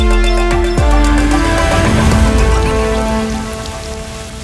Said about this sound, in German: Die Welt vor dem Fenster ertrank im sauren Regen und ich im Selbstmitleid.